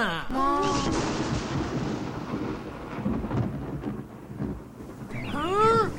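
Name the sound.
rain falling with thunder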